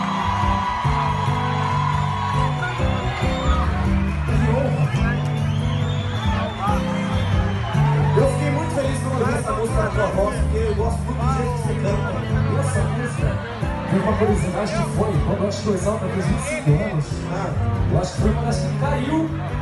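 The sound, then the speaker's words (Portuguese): A large crowd at a pagode concert applauds and cheers steadily for about twenty seconds as a guest singer from Sorocaba is invited to sing, with whoops and shouts rising over a dense, loud wash of clapping and voices that stays constant throughout. “os aplausos de vocês.”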